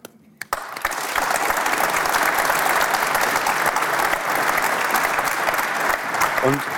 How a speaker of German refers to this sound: Wollen wir kurz mal so eine Klatschabstimmung machen? Team Bullenmarkt.